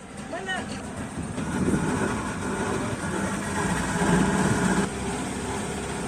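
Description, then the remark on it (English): A small boat engine drones steadily on floodwater over submerged roads in Kisumu, with water noise around it and brief faint voices early on; the motor's hum stays constant throughout. “With roads now submerged in water, locals have to use boats where once motor vehicles and bicycles were the norm.”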